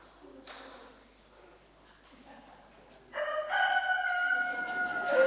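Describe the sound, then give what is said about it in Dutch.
After a few seconds of quiet background noise, a child's voice loudly imitates a rooster crowing, one long, strained, sustained cock-a-doodle-doo that runs to the end. “Een haan kraait.”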